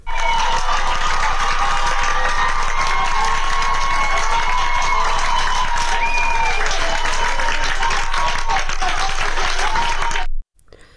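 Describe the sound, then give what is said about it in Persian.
A street crowd in Ahvaz, standing on the sidewalks, claps and cheers continuously for about ten seconds for young women dancing in the middle of the street. It is a dense wash of applause with shouts and whistles rising above it, then it cuts off abruptly. “ویدیو دیگری از اهواز منتشر شده که ابتدا یک دختر جوان که دو دختر جوان دیگه هم بهش میپیوندن در وسط خیابان روسریاشون رو برداشتن و میرقصن و مردم در اطراف در پیاده روها وایسادن برای اونا دست میزنن که صدای این رو هم میشنوی.”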